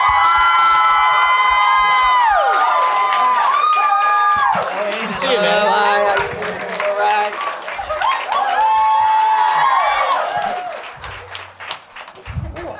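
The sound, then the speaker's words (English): A studio audience at the 96.5 TDY morning show in Philadelphia erupts in loud cheering to welcome a guest, with shrill, sustained screams riding over dense applause; the roar dips briefly midway, swells again, then begins to taper off at the end. “All right, give a warm Philadelphia welcome to our dear friend,”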